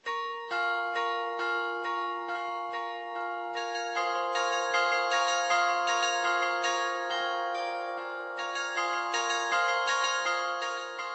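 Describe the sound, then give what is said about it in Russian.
Church bells of the Czech Republic peal in a steady, overlapping sequence of strikes, each bright metallic tone ringing on and blending into the next for the whole stretch, with no voices. “И мы передаем слово Марине Фелтовой и ее рубрике «Колокола Чешской Республики».”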